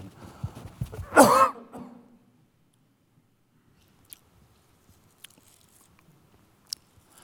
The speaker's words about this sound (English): And so, I want to cough.